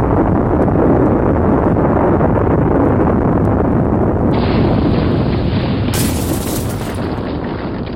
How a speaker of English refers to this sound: Oh, that'll be the 11 o'clock explosion. Well, the thing about the nuclear industry is they're reliable in their timekeeping.